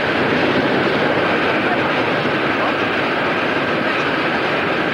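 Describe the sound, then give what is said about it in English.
A subway train speeds past in the Times Square subway station, a loud, steady rush of wheels and rumbling that fills the whole moment without letting up. “A train speeds by.”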